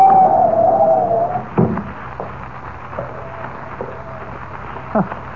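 Wind of a blinding snowstorm howls with a wavering, whistling moan over a steady rush of blowing noise, loud, fading to a constant gusty roar with a couple of soft thumps.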